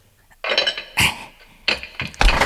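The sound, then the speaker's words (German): A heavy metal door bolt scrapes and clanks in a few loud, uneven bursts as a door is unbolted, with a sharp metallic rattle at the end and no voices. “Der hat den lauten Türriegel gehört.”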